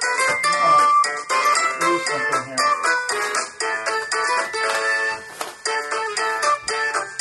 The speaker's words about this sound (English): That's your phone. Do you need me to pass it to you?